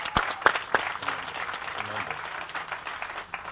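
A crowd applauds Habitat of Pinellas County for completing its 500th home, called for by U.S. Congressman Charlie Crist. It is a dense, steady wash of clapping, with a few sharp, louder claps near the start before the sound settles into an even roar.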